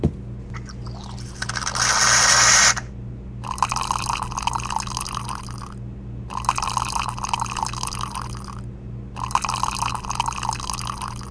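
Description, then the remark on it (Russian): A coffee machine hums steadily as coffee is made for breakfast, starting with a loud hissing burst followed by three long, evenly spaced gushes of liquid pouring, each stopping briefly before the next. No one speaks. “Так, вот завтрак. Сейчас кофе сварю.”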